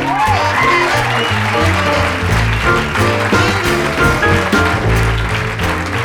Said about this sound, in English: I'd like to introduce, give a warm round of applause for … on piano.